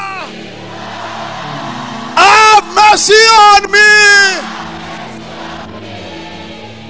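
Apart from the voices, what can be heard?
audience shouting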